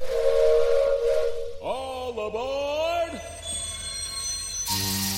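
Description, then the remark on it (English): A steam train about to depart sounds a single loud, sliding whistle blast for about a second and a half amid a steady wash of hissing steam, ending with a sharp burst of hiss. “The train will be departing shortly.”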